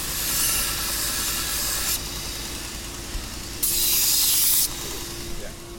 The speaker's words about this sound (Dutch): Wat herrie op de achtergrond, want de werkbank is aan.